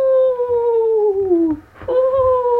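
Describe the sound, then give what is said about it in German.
A voice imitates a ghost's howl with a long, wavering "oooo" that slowly slides downward, breaks off briefly, then starts again for a second shorter wail, fairly loud. “Das kommt an Halloween und macht”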